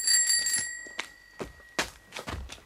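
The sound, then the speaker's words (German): The bell of a man riding a bicycle rings with bright, high metallic tones that linger and fade, struck again partway through, amid a few short rattling clatters and no voices. “Der Kerl auf dem Fahrrad.”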